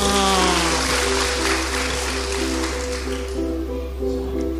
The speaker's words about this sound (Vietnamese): Cho một tràng pháo tay xem nào.